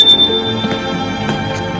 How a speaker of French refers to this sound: on a sonné à la porte. François et Yves sursautent.